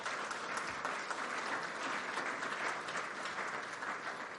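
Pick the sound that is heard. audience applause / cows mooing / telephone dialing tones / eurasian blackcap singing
audience applause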